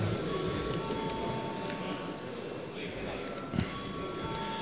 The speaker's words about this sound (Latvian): Paldies, lūdzu zvanu.